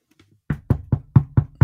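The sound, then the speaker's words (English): Six quick, sharp knocks of knuckles on a wooden desk, knocking on wood for luck, evenly spaced, with no talking. “I'm knocking on wood right now.”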